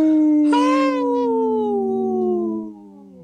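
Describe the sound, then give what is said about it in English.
A person imitates a wolf howl: one long, loud, sustained cry that rises briefly, then slides slowly downward for about three seconds before fading off, with no other sounds around it. “Howl! It threw me off there a little bit”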